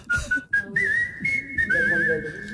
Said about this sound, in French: Non, vous allez voir, c'est musique sifflée française. C'est, musicalement, c'est complètement différent, vous allez voir.